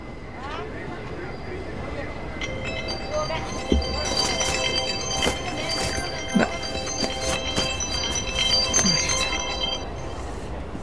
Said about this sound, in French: Allô ? Vous m'entendez ? Non mais en fait je suis dans le métro, donc ça capte...